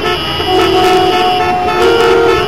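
A loud, sustained car horn blares for a couple of seconds, steady, with a faint traffic rumble underneath and no one speaking.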